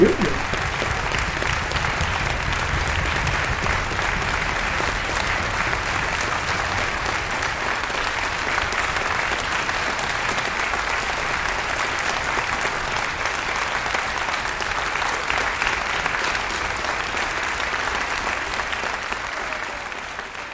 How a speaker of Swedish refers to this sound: Jag kan säga att det är applåder inför ett extra nummer av Helmersson.